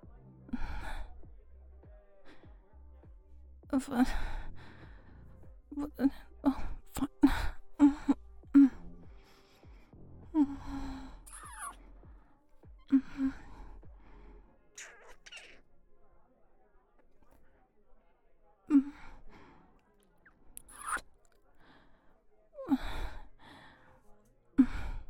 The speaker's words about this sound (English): Well, I'm breathing heavier because it feels good.